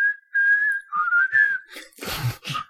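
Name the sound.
people whistling a tune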